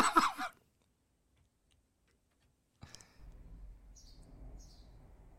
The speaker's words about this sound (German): Vogelzwitschern.